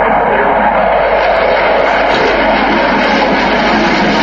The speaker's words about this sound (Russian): Открыла выставку пилотажная группа Липецкого центра боевой подготовки ВВС России на тяжелых фронтовых истребителях Су-27. Летчики продемонстрировали фигуры высшего пилотажа, как в одиночку, так и в плотном боевом порядке.